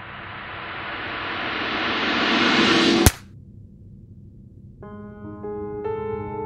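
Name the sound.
gunshot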